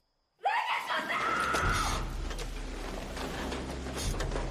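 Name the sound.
a scream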